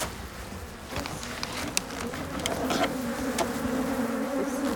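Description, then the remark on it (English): A dense, steady hum of many honeybees buzzing in an opened, smoked beehive, a continuous droning swarm with faint clicks and taps of movement mixed in, no voices. “Now we can hear the voice of bees.”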